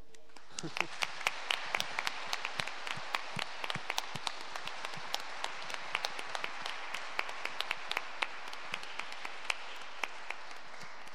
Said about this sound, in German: Und ich glaube, das ist ein Applaus wert.